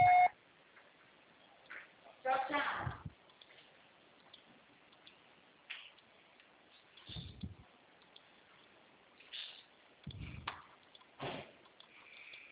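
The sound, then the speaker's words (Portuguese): A single short, steady voicemail beep sounds right at the start, after a Portuguese recorded message says the call is being forwarded to voicemail. It is followed by scattered bumps, rustles and clicks over a thin, muffled phone-line hiss, with no speech. “chamada está sendo encaminhada para a caixa postal e estará sujeita à cobrança após o sinal.”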